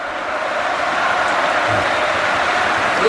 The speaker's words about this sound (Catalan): Quina ovació. Mira, per Sandro, per Sandro. Sandro, Sandro, eh? Crits de Sandro, Sandro.